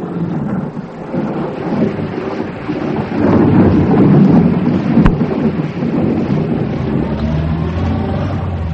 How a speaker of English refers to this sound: Then the storm began quite suddenly, and everything was thunder. It was obviously building towards the mother and father of all cloudbursts, and if I didn't move now, I should have no visibility at all.